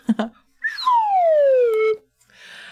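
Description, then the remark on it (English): A small slide whistle gives a quick upward chirp, then one long, smooth downward glide that sinks steadily in pitch for about a second, loud and on its own, after a couple of soft knocks. “I have my little slide whistle here.”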